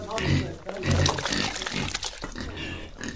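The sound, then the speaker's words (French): Pigs grunt and snort in a busy, overlapping jumble, with wet sloshing and splashing sounds mixed in as a woman feeds them on a farm built on a terrace overlooking fields. “Dans la ferme bâtie sur une terrasse qui surplombe les champs, sa femme nourrit les cochons.”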